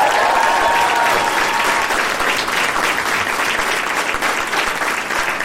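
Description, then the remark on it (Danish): An audience claps steadily to welcome Simon Juhl, a dense wash of many hands applauding at a loud, even level throughout, with no voices standing out. “Giv en stor hånd til Simon Juhl.”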